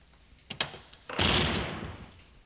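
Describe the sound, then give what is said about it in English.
A front door's latch clicks a couple of times, then the unlocked front door swings open with a broad, rushing creak that slowly fades. It is fairly loud, with no voices. “I hope the front door is open.”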